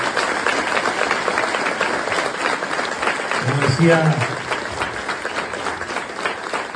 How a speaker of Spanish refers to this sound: Fue realmente muy emocionante verlos, realmente sentir las emociones que nos hicieron sentir, así que muchas gracias y por supuesto un gran aplauso para cada uno de los que estuvieron en este escenario.